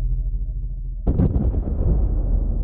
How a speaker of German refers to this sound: Seht nur, die Bukuru. Eine Explosion. Sie bricht auseinander. Jemand auf dem Schiff hat erkannt, dass es der einzige Ausweg ist.